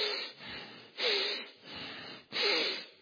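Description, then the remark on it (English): Heavy, forceful snorting breaths through flared nostrils, four in a row with a rough in-and-out rhythm, with no talking. “The word for anger here literally in the Hebrew means the nostrils or the flaring of the nostrils. And the idea is the heavy breathing of God.”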